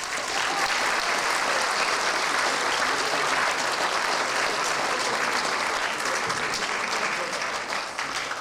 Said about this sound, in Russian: Добрый вечерочек, уважаемые друзья, и под громкие аплодисменты встречаем набор шуточек. Ура, ура, поехали!